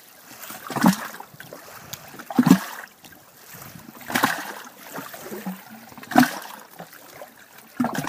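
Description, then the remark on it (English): Water sloshes and gurgles in irregular surges, each slap echoing with a hollow, knocking resonance, as small waves in a quiet cove of Lake Crescent, Washington, wash in and out beneath a hollow log. No voices. “The sound comes from the quiet cove and waves sloshing around under a hollow log.”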